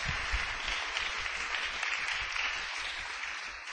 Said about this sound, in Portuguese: Aplauda o Senhor, Ele é digno.